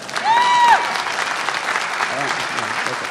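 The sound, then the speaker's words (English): An audience at a nonpartisan, non-ideological center applauds steadily for about three seconds, a dense wash of clapping hands at even loudness. A brief whistle-like tone rises and holds near the start. “Fine, okay, I'm glad you applauded then, because here's my point.”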